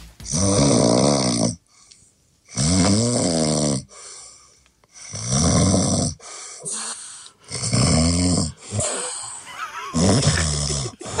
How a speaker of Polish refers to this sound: No właśnie, kto dzisiaj będzie chrapał? … nam wysłała chrapnięcie.